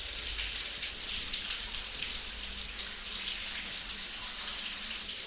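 water running

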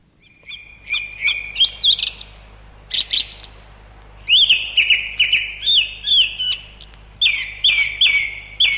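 song thrush song

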